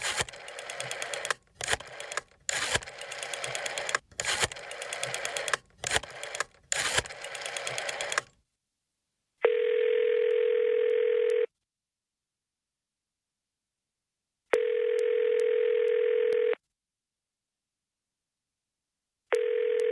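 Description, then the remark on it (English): A phone call from an office phone ringing through to the Johnson City Regional Museum: steady two-second ringback tones repeat with long silent gaps, following several seconds of loud, choppy clattering noise. No one speaks. “Pappy, where's your phone? Office. Help yourself.”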